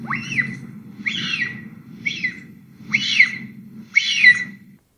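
A large wild animal weighing over 100 pounds gives five high, bird-like chirping calls to its kits, about one per second, clear, over a steady low rumble.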